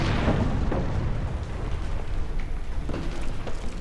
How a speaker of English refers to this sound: And then it just passes between 2 ribs, travels another 10 feet, and the minotaur glances back. And then there's the explosion.